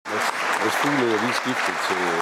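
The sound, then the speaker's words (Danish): Loud, dense applause fills the whole clip as a steady wash of clapping during a debate in the Landstingssalen, caught by TV2's microphones, while a person keeps talking over it, partly drowned out by the noise. “Ja, der er et bifald, der næsten overtager lyden her, men altså, Søren Gade siger, Mads Fuglede er skiftet til Inger, Mette Frederiksen siger nå,”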